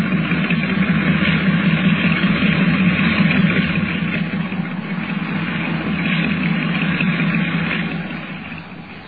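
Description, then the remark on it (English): A boat engine at sea runs roughly and steadily, a dense low rumble with a rattling, uneven texture that fades slightly near the end. No one speaks. “From the sound of it, that engine needs attention.”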